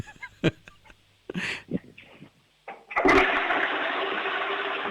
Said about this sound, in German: Wow, ihr habt aber eine laute Klospülung. Das gefällt mir. Das mag ich. Super.